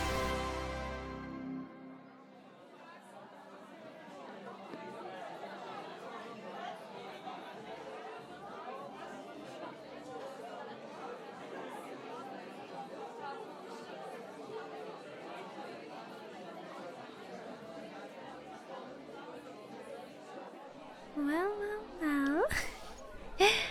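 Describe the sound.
Steady bar crowd chatter: many overlapping voices blend into a continuous, even murmur for the whole stretch, with a few brief, sharper sounds rising above the babble near the end.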